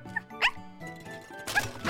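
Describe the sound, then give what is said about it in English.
A dog, Blackie, barks twice in short, sharp bursts, moderately loud, with a faint tonal hum and light tinkling in the background. “Good dog!”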